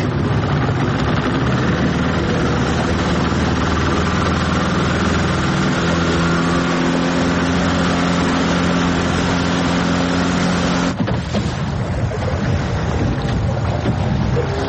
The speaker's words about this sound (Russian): Мотор какой-то, да? А? Мотор какой-то.